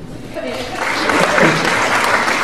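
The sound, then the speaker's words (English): An audience breaks into applause, the dense clatter of many hands swelling over the first second and then holding steady and fairly loud, with a faint murmur of voices mixed in. The applause is for people who like New Age philosophy. “How about a round of applause to people that like New Age philosophy?”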